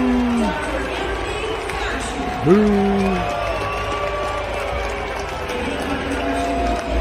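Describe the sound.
A large baseball stadium crowd at a Seattle Mariners game roars steadily, with drawn-out, falling boos rising above the din a couple of times amid a constant wash of voices, booing as Anthony Fauci throws out the first pitch.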